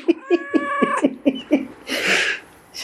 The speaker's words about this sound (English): This particular pet you're now hearing from isn't even ours. It just figured out how to work the cat flap.